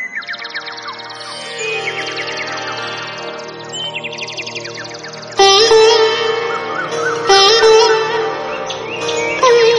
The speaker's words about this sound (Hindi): सुबह सुबह कुछ चिड़ियां साई साई करती हुई, बाबा बाबा करती हुई मस्जिद आई की छत पर बैठ जाती हैं।